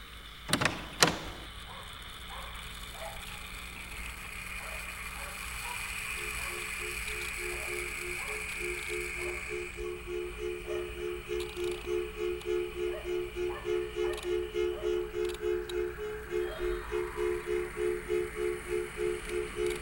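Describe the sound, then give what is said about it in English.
A latch clunks sharply, then a big wooden door swings open slowly and close by, its hinges groaning in a long, steady, rhythmic creak that pulses for many seconds. “Big wooden door, opening and closing, close up. Opening.”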